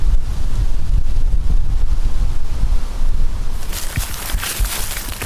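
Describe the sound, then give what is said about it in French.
Steady wind blows loudly with a low buffeting rumble through tree leaves behind an open-air riverside café by a small stream, then a bright, hissing rustle of leaves swells in over the last second or so. No voices. “Derrière la guinguette, il y a un petit cours d'eau avec des libellules et le vent souffle dans les feuilles des arbres.”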